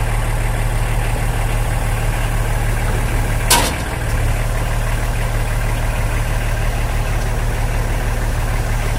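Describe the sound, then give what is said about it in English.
A rail machine's diesel engine drones steadily at low pitch as it lifts itself off the track, using a beam lowered from the machine and turned 90 degrees to latch onto the rail, with a single sharp metallic clunk partway through and no voices. “It then carries on up and lifts the machine off the line.”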